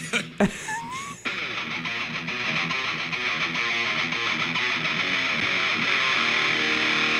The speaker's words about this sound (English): I didn't even know that they made a fart pedal for guitars. Like, they make pedals for everything, but I didn't know they made a fart pedal.